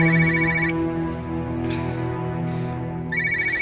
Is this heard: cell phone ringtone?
yes